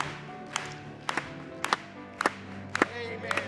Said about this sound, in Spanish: Vamos a aplaudirle.